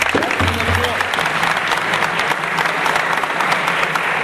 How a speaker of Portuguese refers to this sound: Uma salva de palmas aí.